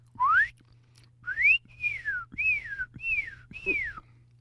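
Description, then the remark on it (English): A person whistles six short tones in a steady series, the first rising and the rest arching up then falling, each clear over a low background hum. “The whistle's going to go.”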